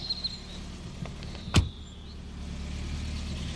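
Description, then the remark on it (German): A taxi's engine hums with a steady low rumble as it pulls up, a faint high whine fading early on and a single sharp click cutting through midway. No one speaks. “Oha, die Herr kommt mit dem Taxi.”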